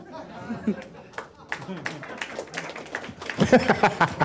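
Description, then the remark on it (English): Scattered audience claps pop over a murmur of crowd chatter and a few chuckles, then the applause swells into a louder, denser burst toward the end. “I love that applause was like, a lot of people don't know what just happened.”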